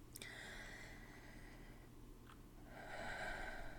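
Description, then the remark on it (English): Slow, calm breathing with no talking, a long soft airy breath drawn out over a couple of seconds, a brief pause, then another steady, slightly louder breath beginning. Quiet and unhurried throughout. “Listen to my breathing. So calm. So tranquil.”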